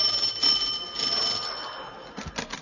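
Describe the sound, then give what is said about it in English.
A bell beside a brass nameplate rings steadily for a couple of seconds, a bright sustained metallic tone at moderate volume, fading toward the end as a few soft knocks or clicks follow. “By the side was a bell.”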